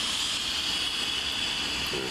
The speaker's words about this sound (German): Das Zischen ist zu laut. Und das Plätschern zu leise.